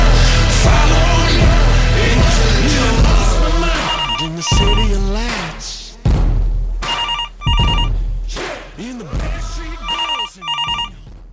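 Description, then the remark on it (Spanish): A telephone rings repeatedly in short double bursts of bright electronic tones, fairly loud, over a busy background of music or voices that fades in and out between rings. “Otra vez el teléfono.”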